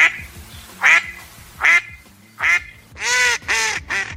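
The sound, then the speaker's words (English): A duck quacks repeatedly, six loud nasal calls in uneven rhythm, the last few coming in quicker succession, with no talking. “Christine, it is a duck.”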